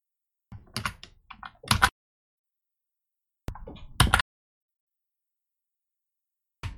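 Typing on a computer keyboard to copy in a link, in short bursts of quick, clicky keystrokes. The typing is fairly loud, with silent pauses between bursts and a final keystroke at the end. No one speaks.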